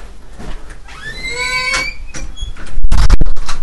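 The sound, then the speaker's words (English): A metal front door swings open with a drawn-out, rising hinge squeal, followed by a loud rattling clank as it moves and settles; it leads into a tiny entryway about 4 feet by 3 feet. No one speaks. “Our front door is metal, and it leads into this little area that I'm in.”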